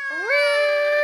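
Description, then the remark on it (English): A cat lets out a single loud, drawn-out scream, its pitch sliding upward before holding steady as a piercing wail, with no other noise around it. “That's a cat screaming.”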